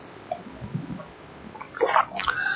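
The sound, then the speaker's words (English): Liquid pours into a glass, a short gurgling stream whose pitch rises as the glass fills. It comes after a moment of quiet low rumble, with no talking during the pour. “Now let me pour some out to you.”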